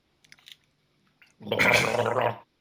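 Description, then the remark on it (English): A few faint mouth and sip noises as a sip of water is taken, then about a second of loud gargling with water, a bubbly, throaty rattle that stops abruptly. “And I'll just gargle as well.”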